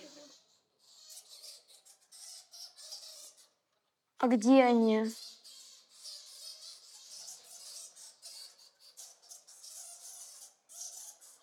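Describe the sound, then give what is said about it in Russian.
Bats squeak, flying and fluttering below in a steep cave gorge: a steady, busy chatter of thin, high-pitched chirps runs throughout, faint but constant, broken once by a short spoken question. “И внизу слышны крики летучих мышей, которые летают и порхают.”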